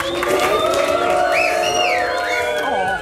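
A crowd at the 75th Fête de l'Humanité, broadcast live, applauds and cheers a guest in a steady, loud roar, with overlapping voices and rising whoops riding over the clapping for about three seconds.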